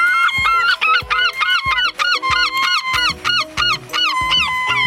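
A herring gull, a white seabird, calls loudly, a rapid run of harsh, yelping cries repeated over and over, with overlapping calls suggesting more than one bird. No one speaks.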